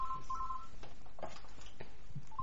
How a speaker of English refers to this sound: Could I just answer the phone?